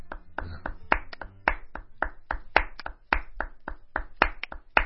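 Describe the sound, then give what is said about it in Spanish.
Hands clap repeatedly in a quick, uneven rhythm, about twenty sharp claps, with no one speaking over them. “Aplaudir, sí.”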